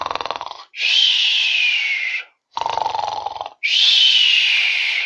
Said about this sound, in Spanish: Solo mudaba de posición y seguía roncando allá en la playa.